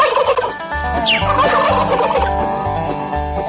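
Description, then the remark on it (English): Turkey gobbling in rapid, warbling bursts, loud and continuous, over a steady low rhythmic thumping underneath. “That's right, gobble gobble.”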